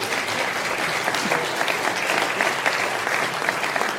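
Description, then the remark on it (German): An audience claps steadily for about four seconds, a dense, even wash of many hands with no voices standing out, fairly loud throughout, applauding a mention of VfL Bochum's 3-0 win over Leverkusen that secured its place in the league. “Ich glaube, damit kriegt man mehr Applaus, als wenn man über Dortmund spricht.”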